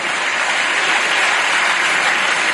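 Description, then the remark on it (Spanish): Sustained applause from a large crowd in a parliament chamber, with Adriana Lastra among those clapping, a dense, steady wash of many hands clapping at once with no pauses for the full length. “Uno de esos aplausos, por cierto, es de Adriana Lastra, en ese instante.”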